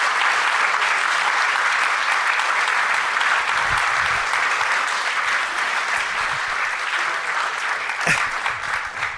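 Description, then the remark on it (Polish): Sustained applause from an audience for the creators, producers and participants of a production, a dense steady clatter of many hands clapping at full loudness for the whole stretch, with no voices rising above it. “Jeszcze raz, wielkie brawa dla twórców.”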